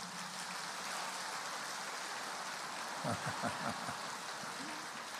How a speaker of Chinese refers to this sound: 对， 鼓掌。